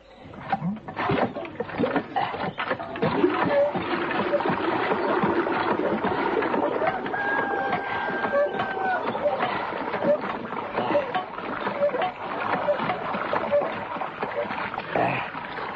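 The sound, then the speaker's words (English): A hand water pump is worked steadily to draw drinking water, with water gushing and splashing continuously for several seconds and faint repeated creaks from the mechanism, fairly loud. “Well, there's the pump. Help yourself.”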